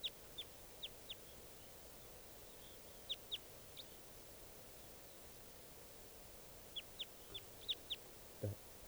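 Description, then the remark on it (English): A wild bird calling from the top of a dead tree, heard as quick, high-pitched chirps in three short bursts of four or five notes each. Steady background hiss fills the gaps between them, and no one speaks. “Recording that wild bird's still here.”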